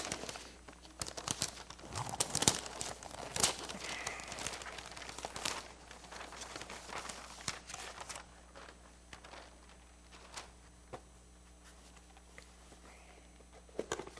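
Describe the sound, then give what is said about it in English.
Wrapping paper crinkles and tears as a wrapped gift is opened, in bursts of sharp rustling, busiest early on and then thinning into occasional crackles and quieter handling sounds. “I don't know whether I'm going to be able to save the paper for my wife to use again or not.”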